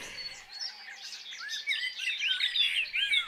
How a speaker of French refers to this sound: Voilà la fauvette à tête noire.